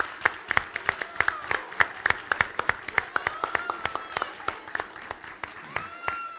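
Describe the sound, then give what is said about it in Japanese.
An audience in a church claps for the children for several seconds, a dense patter of many hands with sharp individual claps standing out, while faint voices murmur underneath. “One more. Big clap for our kids.”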